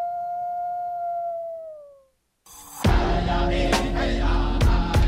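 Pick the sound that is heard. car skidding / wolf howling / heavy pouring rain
wolf howling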